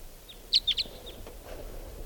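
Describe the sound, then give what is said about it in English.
A wild bird perched on the top of a tall larch tree calls with a quick run of three sharp, high-pitched chirps, framed by a few fainter notes, over a steady low background hiss. “Here it is. Here's the wild bird.”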